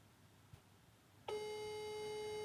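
After about a second of near silence, the ringing tone of an outgoing phone call begins abruptly: a steady, fairly loud electronic dual tone that holds without a break to the end as the call goes unanswered, with no one speaking.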